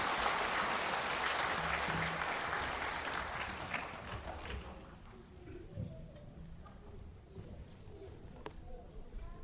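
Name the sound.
audience applauding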